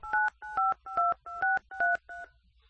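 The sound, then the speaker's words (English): Six telephone keypad button tones beep one after another at a steady, quick pace as a caller keys in information during a phone call, each a short dual-pitched electronic tone, clear, with the last one slightly fainter. No one speaks. “I am telling you it by goddamn dial tone.”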